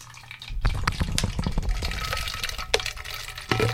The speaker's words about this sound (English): So we have a bottle of water in which we have added some ink to make it blue. Or blue food dye you could add as well. Yeah, and so we're adding about 500 ml of water to a 1 liter bottle.